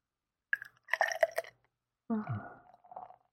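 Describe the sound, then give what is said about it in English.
Dry-hopped beer is poured into a glass in two short bursts, a splashy, fizzing gurgle, then a brief pause before a second softer pour with bubbling as a big foamy head rises. No one speaks. “Hopefully you can pour better than me, because I got a heck of a head. Mine's bubbling up big, too.”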